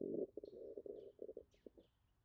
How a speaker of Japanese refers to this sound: 今の音は腹の虫ですか？ずいぶんと大きいのを飼ってますね。